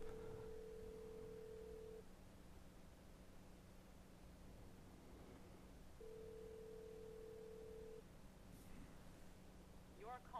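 signal or alarm, telephone call ringing unanswered

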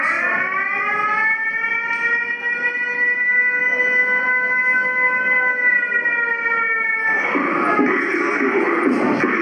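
signal or alarm, air raid siren

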